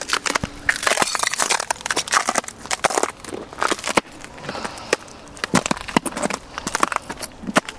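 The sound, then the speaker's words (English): Glass shattering like a wine glass: a dense run of sharp, crunching, tinkling bursts, loud, with scattered fragments continuing throughout and no voices. “I love it when it does that shattering like a wine glass.”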